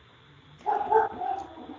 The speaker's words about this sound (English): And the dog says, I just want treats. I heard that dog.